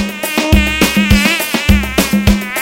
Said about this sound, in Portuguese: Não, que bicho é esse? Ah, é um pernilongo, olha ele aí!